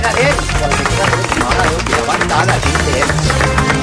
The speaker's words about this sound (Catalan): Un aplaudiment pel servei informatiu de RAC1.